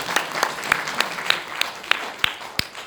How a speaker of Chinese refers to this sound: 他整天要弄这个，弄这个，弄这个，又不是单单为我，又为这个敬拜乐团，忙得要命。再给他一些掌声。